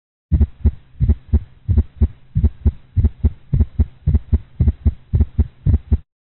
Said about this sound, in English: Now listen to a clinical example of an atrial gallop sound in a dog.